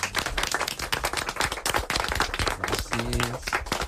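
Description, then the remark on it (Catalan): A group applauds after an interview, with dense, rapid clapping that stays loud and steady throughout, with a brief tonal hum briefly audible beneath the claps near the end. “Anem a fer un aplaudiment, va.”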